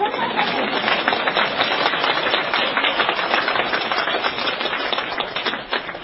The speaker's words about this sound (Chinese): 鼓掌。